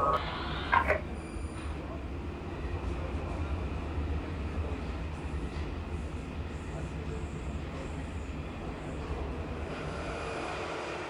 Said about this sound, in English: We are now approaching... This train will terminate here.